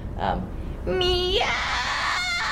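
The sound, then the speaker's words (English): A voice imitates a screeching cat as a fry scream technique: a short breathy sound, then a loud, strained wail that sweeps upward in pitch and holds. “When it comes to fry screams, which is another scream technique, so cackling or screeching like a cat is an example that you can use.”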